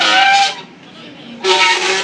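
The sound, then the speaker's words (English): A dog aboard a train with compartment carriages, just leaving Bridge North, gives two loud, drawn-out, harsh howls, almost like a donkey's bray, separated by a short pause, with a faint background rumble. “That's not a donkey on board, that's someone's dog.”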